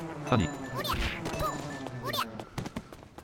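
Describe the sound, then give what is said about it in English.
Video game bees buzz steadily while several sharp hits and thwacks land on them as they are killed for honey, each strike with a brief chirpy squeal, fairly loud, with no talking. “Alright, let's kill some of these bees, get some honey.”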